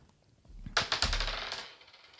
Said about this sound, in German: Du darfst nochmal würfeln.